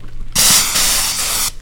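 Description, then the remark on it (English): A loud aerosol hiss from a can of bear spray (strong pepper spray), held with both hands and aimed during target practice, a single forceful burst of a little over a second that wavers slightly as if pulsed in quick spurts, with no talking. “So I'm going to count down, 1, 2, 3, and then you can spray just a couple quick spurts.”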